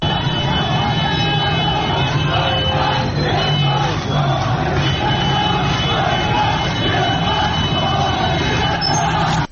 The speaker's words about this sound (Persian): گروهی از شهروندان منطقه این دو در اهواز اعتراض هایی رو کردن، تظاهرات کردن در اعتراض به آنچه آنان عدم رسیدگی به وضعیت سیل و هدایت نشدن آب به سمت طالاب هورالعظیم خوندن. صدای این تظاهرات رو میشنویم.